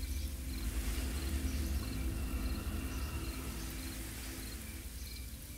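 A steady, soft hiss of fine rain falling continuously, with crickets chirping rhythmically in the background and a low rumble underneath; no voices.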